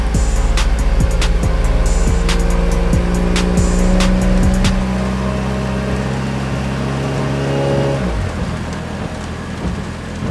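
A red car's engine hums steadily as two people get in, then revs and pulls away toward a motorway entrance, its tone fading toward the end over a wet hiss like rain on the road. No one speaks.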